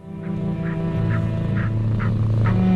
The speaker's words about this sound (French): Entends des petits ronronnements. Ah oui, il y a du ronronnement. Ouais. Un vieux diesel.